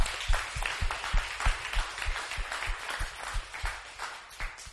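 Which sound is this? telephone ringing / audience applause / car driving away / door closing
audience applause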